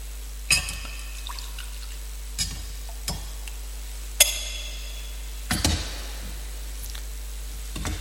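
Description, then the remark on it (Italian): A few separate drops of water are poured into wine in a chalice, landing as sparse, irregular splashes amid quiet with no one talking. “l'acqua unita al vino sia segno della nostra unione”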